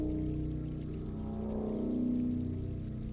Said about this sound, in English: You come to a T-junction in the passage. The trickle of water splits.